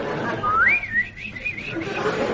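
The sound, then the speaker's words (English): A person whistles an imitation of birds twittering: a wavering, warbling high-pitched whistle that rises and dips in quick undulations, fairly loud, with no talking over it. “As I walk down the country lane, I hear the birds twittering.”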